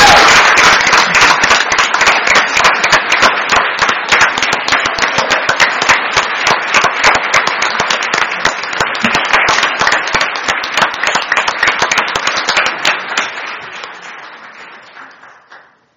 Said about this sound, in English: And I'd love to have one more round of applause for everybody showing up here. Thank you.